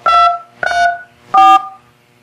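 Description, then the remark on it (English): Three loud, sharp, high-pitched telephone keypad tones, each a short steady two-pitch beep, pressed one after another with brief pauses between them as a voicemail mailbox password is entered, with no talking. “Just the tones are incredibly loud. And like really sharp and high pitched.”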